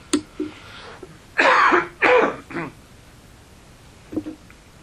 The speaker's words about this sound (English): Let me just clear my throat, have a drink.